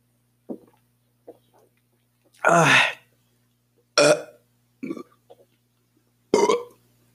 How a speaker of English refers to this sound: Oh, well, you just heard more burping ASMR. You're welcome.